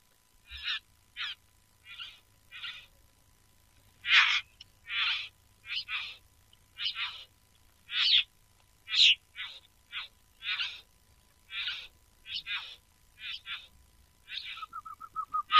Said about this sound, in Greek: Παράξενη φωνή έχει αυτός ο παπαγάλος, ε?